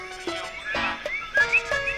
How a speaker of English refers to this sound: The males use their call as a mating song to attract female coquis. A female leaps onto a leaf and approaches the male, whose throat billows with each call. Their chorus can be heard all over the island.